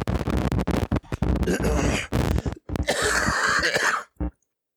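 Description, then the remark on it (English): A cough and throat-clearing, rough and breathy bursts run together over a few seconds, then one short final cough before silence. “I coughed and it made the static go away.”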